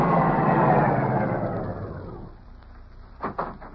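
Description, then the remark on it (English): A car's engine roars with a broad rushing rumble that gradually fades over a couple of seconds, leaving a low hum and then two short clunks near the end. “Car coming.”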